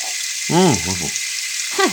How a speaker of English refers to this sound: You shouldn't brush your teeth under running water. Water is precious.